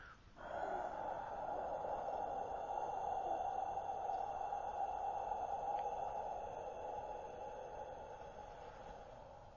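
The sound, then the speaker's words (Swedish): A deep, forceful breath rushes loudly and steadily for about nine seconds without a break during a breathing exercise, with no talking. “Så vad än för tankeprocesser som sätter igång i ett ögonblick bryts av genom att vi ger allt till andningen.”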